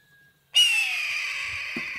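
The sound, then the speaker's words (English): A single long, harsh, raspy scream from a red-tailed hawk, loud, sliding slightly downward in pitch and trailing off after about a second and a half. “the raspy scream of red-tailed hawks are often dubbed over clips that show other birds in flight”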